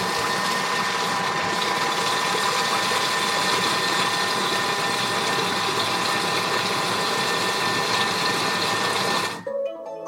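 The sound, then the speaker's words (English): A kitchen robot whirs steadily as it mixes filling on a 10-second setting, a loud, even mechanical drone with a high motor whine and gritty rattling that runs for about nine seconds, then cuts off abruptly. “Okay, we're gonna mix our filling for 10 seconds.”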